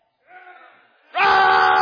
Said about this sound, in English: And he said, "Shout!" And the people shouted.